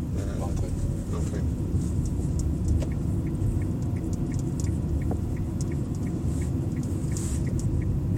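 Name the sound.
car driving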